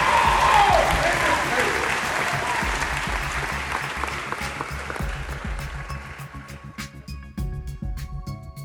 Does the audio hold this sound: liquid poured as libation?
no